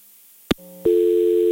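A sharp click as a caller's phone line cuts off during a live radio call-in, a brief faint hum, then a loud, steady dial tone that drones on unbroken to the end.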